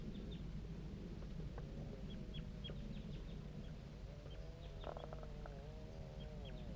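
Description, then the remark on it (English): Juvenile birds calling: repeated short, high peeps scattered throughout, plus a few wavering, lower warbled calls, all over a steady low rumble with no talking. “Start recording the juvenile birds responding to butterfly 3.”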